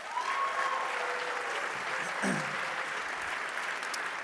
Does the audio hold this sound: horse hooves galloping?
no